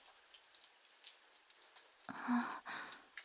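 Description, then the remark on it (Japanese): Steady rain falls continuously, a soft hiss of drops pattering on a surface, with a brief louder swell of splashing near the end. “遊びに行く途中で雨に降られたなんて運がなかったね。でもこの降り方だとなかなか止まないと思うわよ。”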